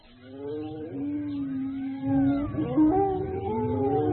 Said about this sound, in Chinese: 果然后面的山头上隐隐约约的站着几匹恶狼，他们的叫声十分可怕。